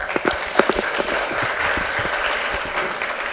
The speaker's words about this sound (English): So thank you very much. Can we get another round of applause for all the presenters?